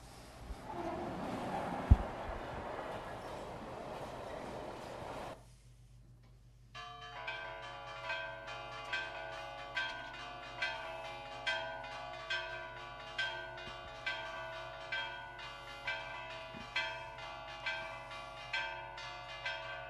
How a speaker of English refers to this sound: So this one is a train level pass, and we should definitely have.